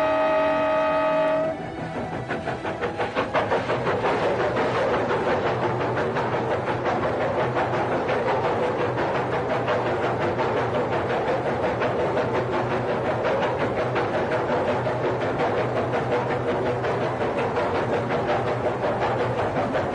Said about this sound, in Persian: اینجا با دره سرسبز آرا کاملا تفاوت داشت. نه درختی بود، نه چمنی، و قطار از یک تونل به تونل دیگر می رفت.